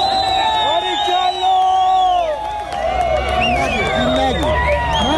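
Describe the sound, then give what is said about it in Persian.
A large crowd in the city of Pardis, Iran, cheers and shouts continuously as a person on the railings of an apparently government building tears up a poster of the leader of the Islamic Republic; a dense wash of many overlapping voices with rising whoops and calls throughout. “فردی که بر روی نرده‌های یک نهاد به نظر دولتی رفته با تشویق هزار پوستر را پاره پاره می‌کند.”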